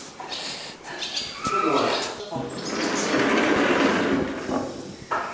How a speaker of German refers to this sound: Du hast jetzt hier gerade eine Tür aufgemacht und das sieht aus wie in einem Warenlager eines großen Versandhandels.